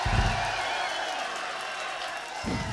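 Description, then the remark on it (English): Live club-show audience at the Marquee Club in London applauding: a dense, steady wash of clapping and crowd noise with scattered cheers, holding at a fairly even loudness for about three seconds. “Now, last but not least, can we please have a really nice round of applause for the meanest, rowdiest, craziest fucking audience in the world.”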